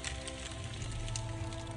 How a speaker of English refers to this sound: Torch.